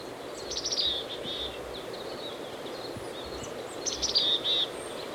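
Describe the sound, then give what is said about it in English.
A chickadee foraging high in ponderosa pine branches on a steep hillside by side road E24 calls in two brief bursts of high, thin notes a few seconds apart, heard faintly over a steady wash of background hiss on a windy day with a stream in the background, with no voices. “I've caught up with the chickadee on a steep hillside.”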